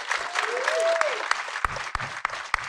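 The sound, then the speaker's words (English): Steady applause from an audience at Regal LA Live, given for the event crew, dense and continuous clapping with occasional sharper claps standing out, plus a faint rising-and-falling whistle near the start. “Yeah, round of applause for them.”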